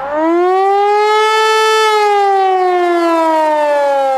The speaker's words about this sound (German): Ich brauche wirklich so einen Alarm oder so im Hintergrund. Kann man es reinschneiden?